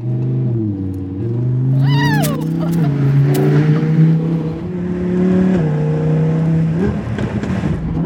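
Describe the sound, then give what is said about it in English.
The engine of a sports car that Nicolas Cage has driven, not a Ferrari, revs hard, its pitch climbing and falling through several throttle blips, with sharp exhaust crackles and pops breaking through the loud, sustained roar. “It's fun. It's fun. Snap, crackle, pop, right?”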